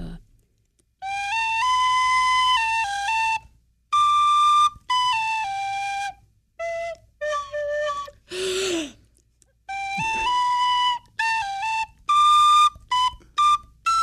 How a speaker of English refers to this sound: Well, I've been practicing on my tin whistle.